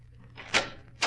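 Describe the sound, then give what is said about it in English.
A door opens as someone arrives, with two quick, fairly loud clunks about half a second apart, over a low steady hum and no voices. “Someone's at the door, Watson.”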